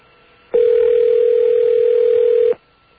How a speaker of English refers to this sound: All right, we're going to make a call to one of our hotlines that we've called in the past. To show people what's out there, what it really sounds like. Here we go. The actual sound of a phone ringing.